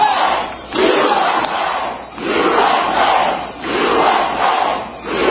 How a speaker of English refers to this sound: Listen, listen to what they're chanting. USA!